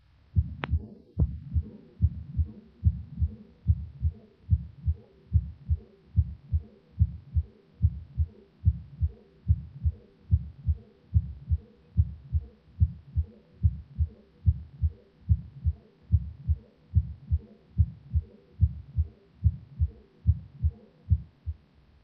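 A steady heartbeat recorded through a stethoscope at the second auscultation point and at the Botkin-Erb point, with combined systolic and diastolic murmurs between the beats. The low, thudding beats repeat in an even rhythm for the whole recording, and no one speaks.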